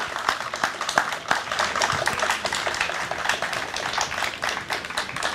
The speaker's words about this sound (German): Ich glaube, das ist einen ganz großen Applaus wert, oder? Dankeschön.